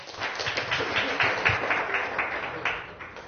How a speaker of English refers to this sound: Can we give her a warm round of applause, please?